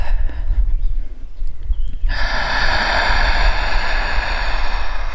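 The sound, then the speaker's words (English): After a brief stretch of low, quiet rumble, a deep, forceful breath is drawn in loudly, rushing in steadily for several seconds as the lungs expand. No one speaks. “And every time you inhale even deeper.”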